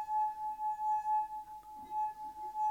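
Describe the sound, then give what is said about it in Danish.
A steady, pure ringing tone from a glass rim being rubbed, sustained and fairly loud throughout, with faint harmonics above it and a brief soft knock partway through. “Du kan ikke men du kan ikke sidde og gøre det på glasset, og så få den til at knuse, eller hvad?”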